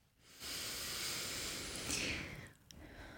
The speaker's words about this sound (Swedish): Och det är jättebra det du gör. Att du andas in genom näsan. Och så kan du släppa ut genom munnen.